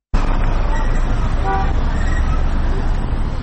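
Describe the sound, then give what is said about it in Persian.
Dense, steady roar of busy street traffic on the roads of Kabul, Afghanistan, on the second day of Eid during a Taliban-government ceasefire, with a few brief car horn toots rising out of the rumble, the clearest one midway through. Indistinct voices may mix into the din. “خبرنگار رادیو آزادی به جاده‌های کابل رفته و نظرات را در دومین روز آتش بس طالبان و دولت پرسیده است.”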